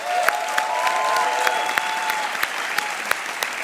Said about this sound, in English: Students and competitors, please give yourself a round of applause because you all deserve it.